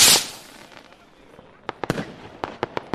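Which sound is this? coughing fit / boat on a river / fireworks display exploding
fireworks display exploding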